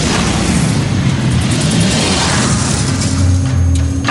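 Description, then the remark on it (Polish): An IED blast under the commander's armored MRAP vehicle roars loudly, a dense, deep rumble of debris and fire sustained steadily for several seconds with no voices. “Eksplozja ID-ka pod wozem dowódcy.”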